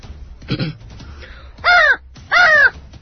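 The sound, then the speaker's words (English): A crow lets out a short, rough throaty rasp as if clearing its throat, then two loud, harsh caws in quick succession, clear with no talking. “The crow flew up to the dais next. Clearing his throat, he began.”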